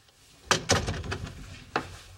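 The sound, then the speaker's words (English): A door is pushed shut, a cluster of sharp wooden knocks and rattles followed by one final thud, with no voices. “Close the damn door.”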